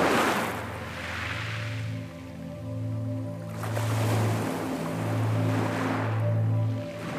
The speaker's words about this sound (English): And you can still hear the soft, gentle waves lulling you to sleep.